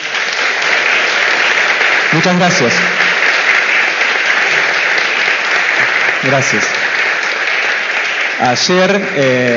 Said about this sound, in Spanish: Le pedimos un aplauso.